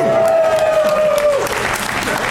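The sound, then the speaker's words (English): Loud, dense audience applause fills the whole stretch, a steady wash of clapping with a sustained whistle-like tone gliding through the first half before fading out. “I like the applause.”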